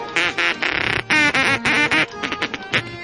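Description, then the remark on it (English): A toy duck call blown in a rapid string of nasal, buzzy quacks, loud and irregular, some short and clipped and a few longer drawn-out honks, with no talking over them. “This is a wacky, official wacky quacker for local amusement.”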